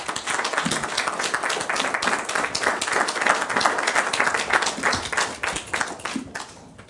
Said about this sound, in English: And you are welcome to applaud them now because they deserve it.